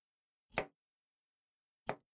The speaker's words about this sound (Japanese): 左手の指を緩く曲げて、猫の手で食材を押さえる。うん、その調子。左手の指の第一関節と第二関節のここに包丁を当てるようにして切る。